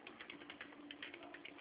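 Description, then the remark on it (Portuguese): Quiet, steady keyboard typing at a table: a quick run of light key clicks tapping along at an even pace, with a faint hum underneath and no voices. “Como é que tu consegue falar, não segurar o celular e ficar digitando?”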